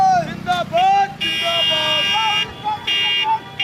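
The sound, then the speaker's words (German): Vehicle horns blare in loud, repeated honks over the din of a dense crowd of supporters surrounding an approaching car on an election campaign tour in India, with voices and shouting as security staff struggle to clear the car's way through the throng. “Auto sich nähert, wird es umringt von Anhängern.”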